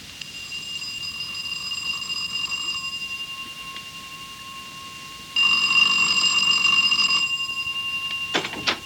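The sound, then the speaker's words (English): A front doorbell rings insistently, a loud, shrill electric ringing in long bursts: one for about three seconds, then a pause, then another strong burst, with no one speaking. “because the bell continued to ring for some considerable time.”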